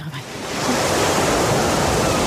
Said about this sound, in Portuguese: Isto é mar. Já sei o que é isto.